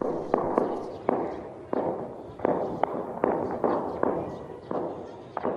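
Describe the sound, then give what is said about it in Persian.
A rapid series of about a dozen sharp, booming blasts at irregular intervals, one big explosion followed by smaller ones during an attack and clash with police at Afghanistan's new Interior Ministry building, loud, over a continuous rumbling roar, with no voices. “شاهدان رویداد به صدای آمریکا گفتند که نخست یک انفجار مهیب به وقوع پیوست و به تعقیب او چند انفجار کوچک دیگر به دنبال درگیری آغاز شد.”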